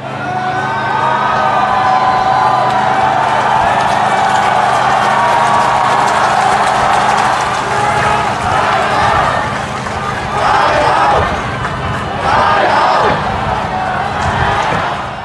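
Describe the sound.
A dense, loud crowd of protesters roars and cheers continuously after breaking into a city's Legislative Council building, with shouting voices, whoops and scattered bangs rising in waves over the steady din of many people.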